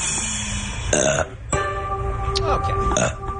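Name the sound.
burp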